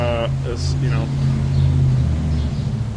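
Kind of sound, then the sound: vehicle, truck driving by outside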